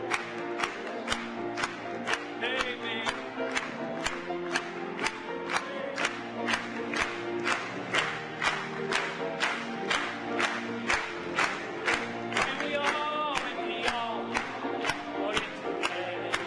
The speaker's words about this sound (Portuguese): Batamos palmas para ele.